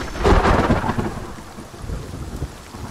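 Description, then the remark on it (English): A deep roll of thunder swells loudly and rumbles away over steady, hissing rain during a July monsoon-season thunderstorm in the Sonoran Desert of southeast Arizona, with no voices present. “Moist air colliding with intense heat and mountainous terrain breeds epic thunderstorms.”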